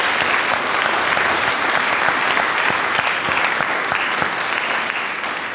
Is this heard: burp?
no